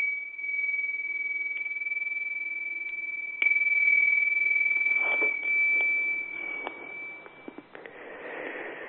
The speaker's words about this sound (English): Welcome back, everyone. I'll just ring some bells to help you come all the way back round.